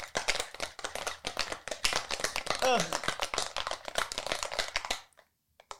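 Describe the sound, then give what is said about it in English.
Ice rattles hard inside a cocktail shaker holding a Kahlua drink in a fast, steady rhythm of loud clacks for about five seconds, with a brief sliding vocal sound partway through, before the shaking stops abruptly. “And then shake it up.”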